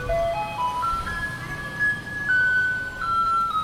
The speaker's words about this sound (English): That's A Maiden's Prayer by Polish composer Tekla Baranowska. And in Taipei City, the garbage trucks just alternate between these two songs.